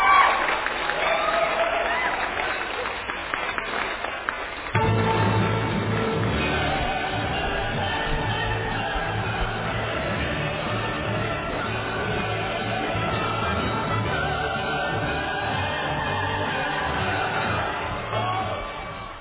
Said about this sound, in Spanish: Vamos con los aplausos para Boric, entonces.